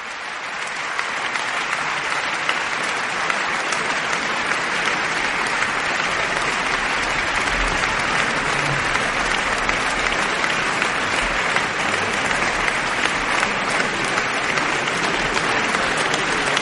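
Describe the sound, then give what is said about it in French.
Sustained audience applause at the Théâtre des Champs-Élysées in Paris for 25-year-old violinist Sergei Khachatryan after Prokofiev's Violin Concerto No. 2 with the Orchestre National de France, conducted by David Afkham: a dense, steady wash of clapping at an even loudness, with no voices rising above it. “Applaudissements donc du public pour ce jeune violoniste de 25 ans, Sergueï Khatchatryan, qui jouait donc ce concerto numéro 2 de Sergueï Prokofiev”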